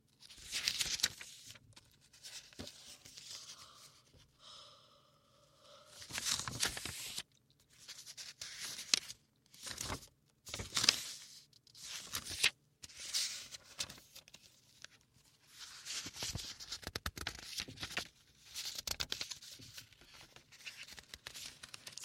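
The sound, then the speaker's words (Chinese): Soft rustling of the pages of a small notebook being flipped again and again in irregular bursts, mixed with faint scratchy sounds of a pen writing; no one speaks. “像翻书写字的声音，也不用说了，这是个小本子。”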